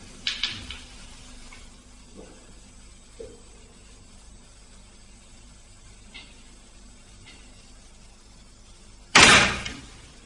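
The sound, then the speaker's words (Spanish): A door creaks faintly as it swings on its own at night with no draught, with a few soft knocks, then slams shut loudly near the end after a quiet stretch. No one speaks. “Y de repente, y sin dilación, la puerta se movió sola y terminó por cerrarse.”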